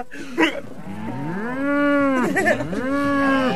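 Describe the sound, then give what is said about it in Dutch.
A cow moos twice in close succession, each a long, drawn-out low with a brief dip between them, fairly loud with no talking. “Krabat, kijk, we hebben weer een koe.”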